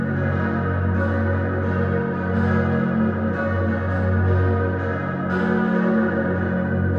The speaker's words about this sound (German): Der bessere Klang der Glocken der Stadtkirche Aarau wurde sofort bemerkt.